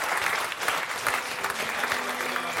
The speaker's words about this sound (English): Could I have a big round of applause